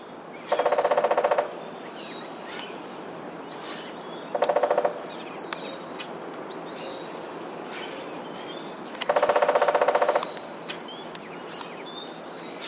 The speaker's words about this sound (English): woodpeckers land up on a house on a weather vane or something metal that's nice and hollow and makes a big ring